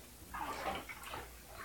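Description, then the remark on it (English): Water sloshes and splashes gently in a bathtub as a child is bathed to wash off dirt, a few soft swirling movements over a second or so, fairly quiet, with no one talking. “I know you're old enough to take a bath by yourself, but I want to make sure we get all that dirt off of you.”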